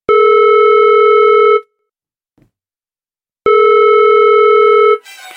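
A telephone ringback tone sounds while a call is placed: two long, steady electronic tones separated by a pause of silence, loud and clear with no one talking.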